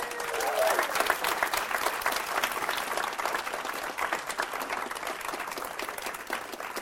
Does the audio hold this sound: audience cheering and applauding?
yes